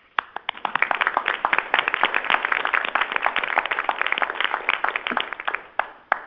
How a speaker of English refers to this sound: So I'm really going to applaud for this. Okay, so I will request everybody to join me.